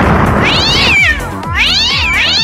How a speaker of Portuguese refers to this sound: Errou, mulher. O gato miou 3 vezes, que já errou, já errou tudo, mulher.